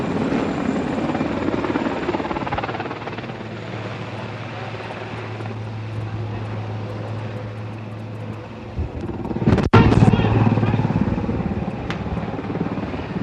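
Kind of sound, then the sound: vehicle, helicopter flying overhead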